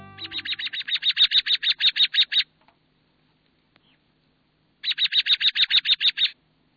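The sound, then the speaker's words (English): An American robin sings two bursts of rapid, evenly spaced high notes, each run lasting a couple of seconds and separated by a quiet pause, clear with no talking. “Remember last spring when robins sang this lovely song?”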